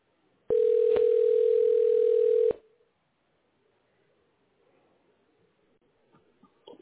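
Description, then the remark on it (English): A telephone ringback tone sounds once, a loud, steady electronic tone lasting about two seconds that cuts off abruptly, leaving quiet line hiss and faint rustling afterward. “Hey, it's ringing.”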